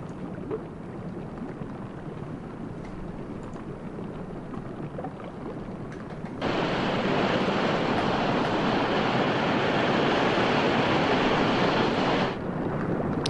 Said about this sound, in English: Oil burning and being actually, it doesn't sound like oil burning at all, does it? It sounds like oil bubbling. It's gonna start to burn though.